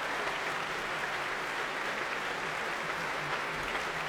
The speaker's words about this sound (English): Warmly appreciated by the crowd here at the Royal Albert Hall, and bringing the first half of tonight's prom to an end.